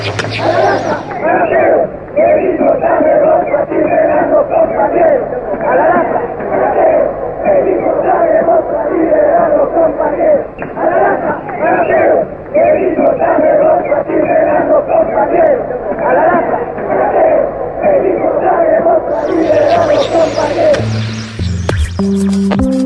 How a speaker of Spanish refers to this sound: Un momento de mucha tensión, puesto que la cantidad de gente que está fuera de este penal intenta entrar al penal y pide a gritos la liberación de los detenidos, los presos políticos que se encuentran en la celda.